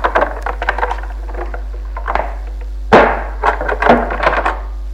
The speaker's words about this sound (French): L'on descend les escaliers, traverse la cour. La porte se ferme.